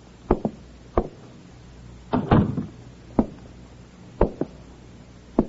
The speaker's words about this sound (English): He walks down the hall to the door of apartment number 7. He knocks. Receiving no answer, he tries the door, finds it open, and enters.